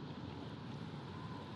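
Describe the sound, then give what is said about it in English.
Steady wind and ocean surf rush together in a dense, continuous wash of noise, fairly loud and even throughout, with no distinct wave breaks standing out and no voices. “So I think this is why I love the ocean.”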